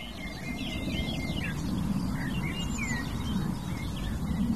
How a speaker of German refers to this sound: Wir hören das helle Milchgrasmückenlied, das da. Wir hören die Feldlerchen über uns und die Nachtigall mit ihrem Schlagen und ihren hohen Pfeiftönen.